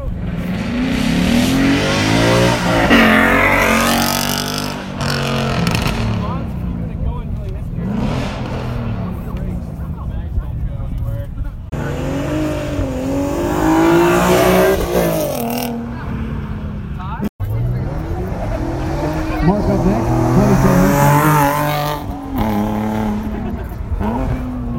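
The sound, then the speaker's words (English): Several cars, including a Dodge Challenger and a 2011 Volvo, rev loudly as they roll past a fence line one after another in a rolling exhaust competition, engine pitch climbing and falling with each pass, with voices faintly in the background. “All right, let's get back over to the fence line, and we'll do the passes, the sound bites for the rolling exhaust competition.”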